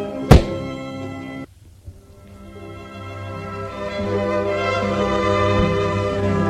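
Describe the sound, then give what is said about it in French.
A man who has stepped out of the bedroom opens a door with no peephole: one sharp, loud thunk like a latch giving way, then a brief hush before a steady, humming background slowly swells in and carries on. “Il l'ouvre.”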